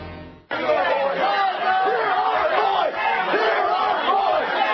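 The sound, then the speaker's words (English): At a town hall meeting, a large crowd bussed in by Dick Armey's group shouts down debate in a loud, continuous roar of overlapping voices, bursting in abruptly after a brief moment of low sound and holding steady to the end. “Again, any debate or discussion prevented there, shouted down by the teabaggers who were bussed in by Dick Armey's group.”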